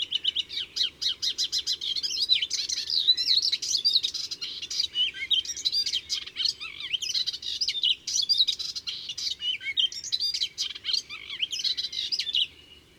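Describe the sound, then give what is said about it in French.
A Hippolais warbler pours out a fast, nonstop babble of high, scratchy yet melodious notes, with mimicked calls of sparrows, starlings and a blackbird alarm woven in, sung fairly loud, with only brief pauses and no voices. “Et après ce prélude d'imitation, l'Hippolaïs se lance dans un bavardage hyper rapide, mélodieux mais grinçant, un torrent de notes précipitées à toute allure.”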